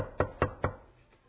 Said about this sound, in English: But half an hour later, he gets another knock on the door.